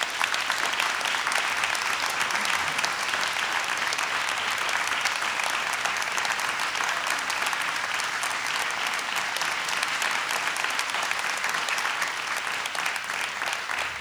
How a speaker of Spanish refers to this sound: Ahora solamente me queda invitar al escenario al director de la Camerata Argentina de Guitarras, Martín Marino, a quien le brindamos este aplauso.